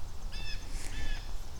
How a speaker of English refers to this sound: Honk, honk to you, bird.